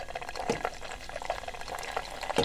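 Liquid pours steadily into a large pint glass, a continuous bubbling, gurgling stream with small splashy bursts, moderately quiet, with no voices.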